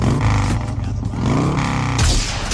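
A loud Harley-Davidson motorcycle engine, the one Arnold Schwarzenegger rides in the second Terminator film, revs with a deep, throbbing rumble, its pitch climbing and dipping over a couple of seconds before a final surge of throttle.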